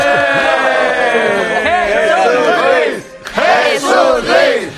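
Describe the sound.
A loud crowd cheers and whoops, many voices overlapping in rising and falling shouts with clapping mixed in, dipping briefly about three seconds in before swelling again.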